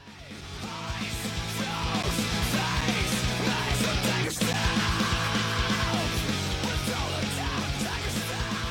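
Loud, dense rock music with a raw, screamed male vocal yelling over heavy drums and distorted guitars, sustained throughout with a brief dropout in the middle.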